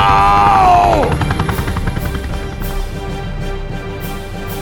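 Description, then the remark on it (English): The rotor of a helicopter gunship with floats thumps loudly in a steady, rapid chop, with a high turbine whine that drops away in the first second under a heavy engine rumble. “Rourke's numbed hands clawed into the helicopter's floats”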